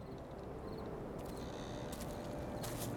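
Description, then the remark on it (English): Soft, swishy footsteps brush through tall grass at night at a steady pace, growing a little louder as they approach over a constant low rumble of background noise. “But just then, they heard footsteps approaching.”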